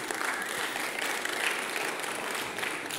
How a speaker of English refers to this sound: First of it, thank you for anyone in the service who's served. Like, I truly want to thank you for your service. You can clap it up.